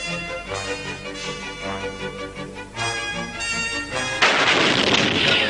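Orchestral music plays for a few seconds, then a loud shot from a large cannon fired by lighting its fuse bursts in, and its rumbling, noisy roar carries through to the end.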